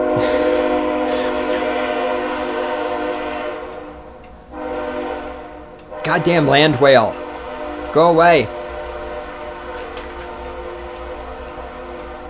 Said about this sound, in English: Anyhow, with this thing, here comes the train, of course.